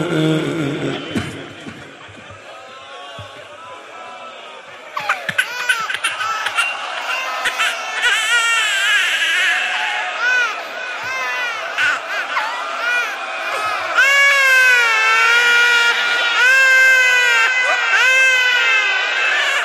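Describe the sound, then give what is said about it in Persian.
A baby cries loudly and continuously, its high wavering wails growing stronger and more insistent toward the end, with a faint murmur of other voices in the background. “این باز میتونه داد بزنه، علی اصغر نمیتونست، میخواست فریاد بزنه، صداش در نمیومد.”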